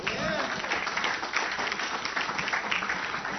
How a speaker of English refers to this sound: Thank you for your speaking part. Good job. A round of applause.